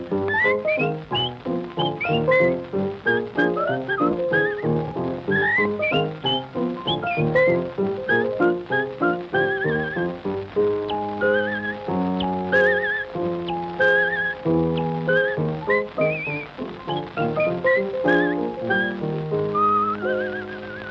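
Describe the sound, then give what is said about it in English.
An old blues record, recorded in Chicago in December 1933, plays, thin and band-limited, with a bright whistled melody riding over steady, rhythmic plucked backing for the whole stretch, with no singing or talking. “It was recorded in Chicago in December 1933.”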